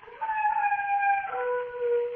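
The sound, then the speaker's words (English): A single long, mournful dog howl holds a steady wavering pitch, then drops lower toward the end. It sounds clear, with nothing else happening around it. “Oh, that dog again. Every time it howls, my blood runs cold.”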